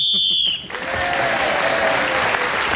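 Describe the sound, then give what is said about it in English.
A shrill, trilling whistle blows loudly for about half a second to end a round of a game while a contestant is speaking, then cuts off as a burst of applause rises and carries on steadily to the end. “was then speaking as the whistle went,”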